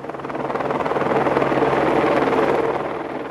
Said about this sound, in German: Helikopter von der privaten Firma Helirezia sind die einzigen Fluggeräte, die noch regelmässig vom ehemaligen Militärflugplatz San Vittore abheben.